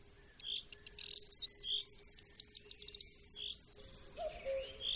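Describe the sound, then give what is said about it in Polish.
A newly matured singing bush-cricket (Tettigonia cantans) gives a continuous high, buzzy trill that dominates, steady, with a few faint bird chirps and a low hum in the background; a forest glade (Puszczańska Polana) in the midday heat of July. “Właśnie zaczął swoją niekończącą się pieśń pasikonik śpiewający, który dopiero co uzyskał dojrzałość.”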